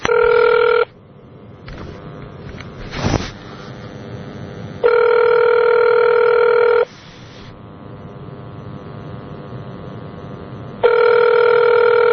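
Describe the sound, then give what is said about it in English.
A telephone ringback tone heard from the caller's end of an outgoing call: three steady electronic rings, each about two seconds, separated by long pauses of faint line hiss, with a brief click between. “Well, we got it ringing.”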